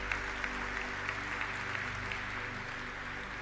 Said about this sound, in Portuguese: Você pode dizer amém e pode até aplaudir, que fica bonito.